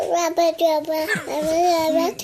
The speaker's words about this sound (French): et ma fille, elle l'a regardé et elle lui a sorti une phrase de bébé.